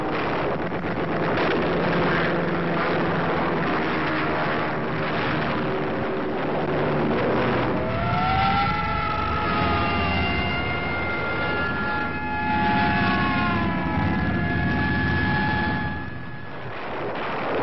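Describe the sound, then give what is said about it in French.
A heavy, continuous drone of Allied bomber aircraft rumbles overhead during an air raid on Berlin, and partway through a wailing air raid siren rises and holds its pitch above the din, loud throughout. “Chaque alerte signifie que les avions alliés viennent déverser chaque fois de 1000 à 2500 tonnes de bombes, comme ce fut le cas le 20 avril, jour de l'anniversaire de Hitler.”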